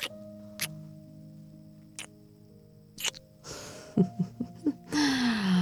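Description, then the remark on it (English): A child's big breathy yawn at bedtime swells up near the end with a rising voiced tone, after a few soft, evenly spaced ticks over a steady low background tone. No one speaks. “Oh, that was a big yawn, baby.”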